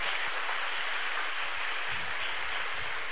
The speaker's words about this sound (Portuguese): Vocês podiam dar um enorme aplauso para eles, né?